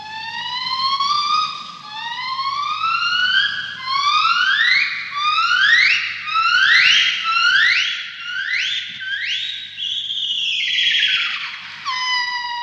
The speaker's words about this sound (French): C'est pas mal, hein, c'est le cri d'un gibbon actuel. C'est ce que vous auriez peut-être pu entendre il y a 13 millions d'années dans la forêt équatoriale qui recouvrait les rives actuelles du lac de Turkana au Kenya.